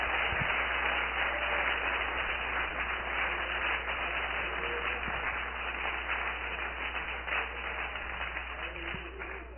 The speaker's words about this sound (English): Oh, let's clap our hands at Jesus.